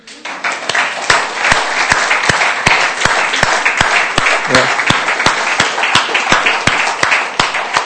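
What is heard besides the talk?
audience applause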